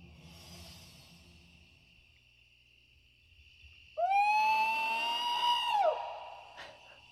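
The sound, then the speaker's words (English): A Bigfoot searcher on a Bigfoot-hunting TV show imitates a Bigfoot call: one long, loud, wavering howl that rises, holds steady for about two seconds, then drops off, ringing out over a faint hiss of background noise. “This is some show back in the day where they were like... finding Bigfoot, and they would do these calls.”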